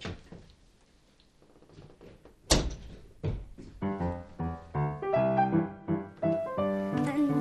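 A door shuts with a single solid thud after a quiet stretch of faint rustling, and a bright melodic tune then starts up and continues to the end.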